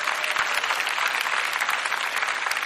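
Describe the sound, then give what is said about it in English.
An audience claps steadily, a dense, even wash of many hands with no pauses, sustained at a strong level throughout and no voices standing out. “When we clap, but it's really not about her.”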